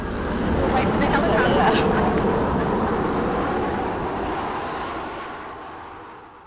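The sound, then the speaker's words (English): A loud, low rumbling roar of a helicopter passing overhead in the chaotic aftermath of a storm, building quickly to a peak and then slowly fading as it moves away, with a faint choppy texture running through the drone. “They were living in their car and sat outside on a cardboard box to speak in the chaotic aftermath of the storm, helicopters and tanks passing by.”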